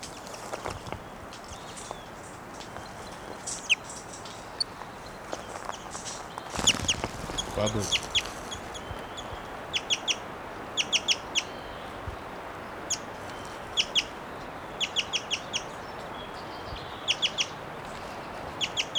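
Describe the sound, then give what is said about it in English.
A caged female wild bird gives repeated short, high calls, often in quick clusters of two or three, over a steady background hiss, with a brief louder rustle partway through. “Seven still calling, the wild bird still in her cage.”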